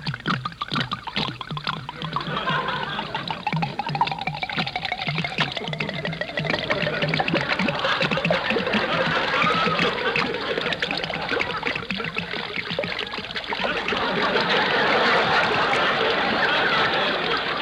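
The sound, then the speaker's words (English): Liquor pours steadily and continuously from bottles into mincemeat, a gurgling trickle splashing into the thick mixture for about eighteen seconds, with no talking. “Go ahead and pour it into the mincemeat. I'll pour this bottle in, and then you pour another one in.”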